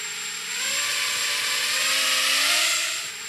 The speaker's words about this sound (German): Es ist eine Drohne. Sie sammelt Bilder und brisant dabei, möglich, dass sie dabei den Datenschutz verletzt.